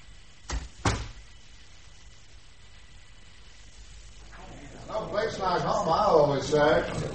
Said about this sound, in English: Shall I shut the door, sir?